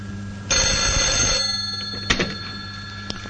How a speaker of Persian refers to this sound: ولی این روزبه که با صدای زنگ تلفن بیدار شد.